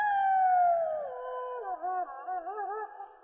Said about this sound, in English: Laura heard a wolf's cry from somewhere far away on the prairie